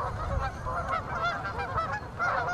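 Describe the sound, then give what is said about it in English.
Many geese at Lake Merritt honk continuously in overlapping calls, a dense, raucous chorus of nasal cries over a low rumbling background, loud and steady throughout with no talking. “Any of the boaters complain about the geese, or do you have”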